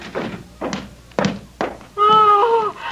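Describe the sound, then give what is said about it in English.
A few solid knocks and thunks of a door bolt being slid shut, followed by a short, loud, tonal creak or squeal that fades out. “Bolt the door. I was about to. There. It's bolted.”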